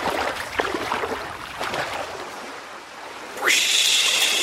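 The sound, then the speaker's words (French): Water splashes in a few quick bursts at the beach, like someone swimming and kicking in the sea and splashing another person, then a rising whistle-like tone cuts in and holds steady. “Arrête, tu m'éclabousses.”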